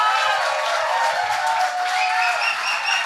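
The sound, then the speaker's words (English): A crowd breaks into dense, steady applause mixed with cheers and a few whoops, loud and sustained without a break for a few seconds. “Big round of applause”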